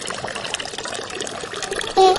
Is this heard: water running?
yes